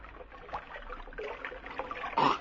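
Sloshing and trickling as water is scooped from a stream to drink, a run of small splashes and drips that ends in one louder splash.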